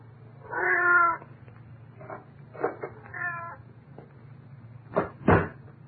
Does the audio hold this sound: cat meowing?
yes